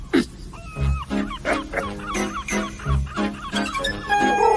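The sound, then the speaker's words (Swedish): A parrot squawks and chatters in a rapid string of harsh, honking calls, loud, with a few thin whistles near the end. “Oj, vad det är skönt att vara papegoja och skola om det härliga livet på oceanen.”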